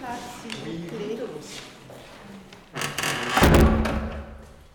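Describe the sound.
Muffled voices murmur, then a door swings open with a rush of noise and shuts with a heavy thud near the end.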